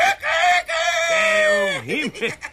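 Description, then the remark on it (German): A person imitates a rooster's crow: one loud, drawn-out, strained call held for about two seconds, ending in a few wobbling, warbling pitch swoops. No other talking is heard. “Und jetzt kommt noch ein Hahn.”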